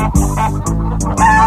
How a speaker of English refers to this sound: Including Lurch, the office parrot. At least we think he's a parrot.